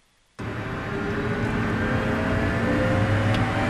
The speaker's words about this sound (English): Flying over the Mogollon Rim north of Payson in a helicopter, smoke rises in the distance. So as we're flying over the rim now, we can see there are a couple fires burning up here.